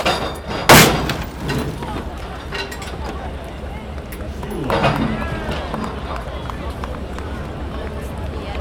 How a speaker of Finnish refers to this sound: Messukeskuksen parkkipaikalla pudotettiin äsken mopoauto nostokurjesta.